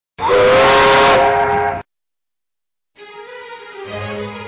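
A steam locomotive whistle blasts loudly for about a second and a half with a hissy, breathy edge, falls silent, then sounds again in a second, slightly softer blast that holds steady.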